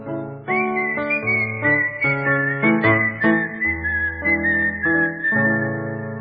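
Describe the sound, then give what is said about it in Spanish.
A person whistles a lilting tango melody, clear and steady, over a rhythmic instrumental accompaniment of plucked and sustained notes, with no talking. “Me paro en aquella esquina, cueste tanguite me pongo a chiflar.”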